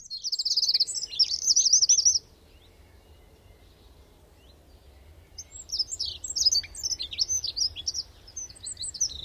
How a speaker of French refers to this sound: J'entendrai bientôt le chant des oiseaux.